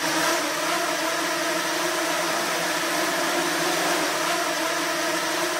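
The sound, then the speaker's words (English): A swarm of twenty nano drones from a lab at the University of Pennsylvania buzzes steadily, a dense, high whirring drone with layered humming tones that holds constant loudness throughout, with no voices. “Where that stands, where that's heading, is the sound of a swarm of 20 nano drones from Vijay's lab at the University of Pennsylvania.”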